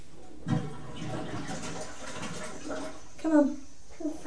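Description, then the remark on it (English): A toilet is flushed, a steady rush of water lasting a few seconds before it fades, followed by a couple of short voiced sounds from a child. “Are you going to flush the toilet?”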